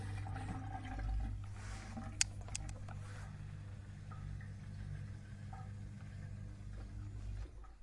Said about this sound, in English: And what you're hearing in the background now is my dishwasher.